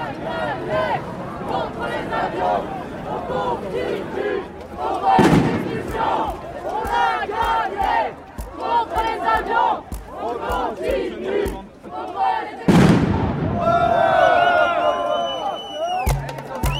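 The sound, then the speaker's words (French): A large street demonstration crowd marching through the streets of Nantes, France, chants and shouts together in a continuous roar of overlapping voices, broken twice by sudden sharp bangs, with a loud, whistling cry rising near the end. “50 ans de lutte pour certains, une dizaine pour d'autres, pour les plus jeunes qui sont là aujourd'hui et qui marchent dans les rues de Nantes.”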